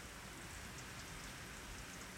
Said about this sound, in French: Tic, tic. Il pleut.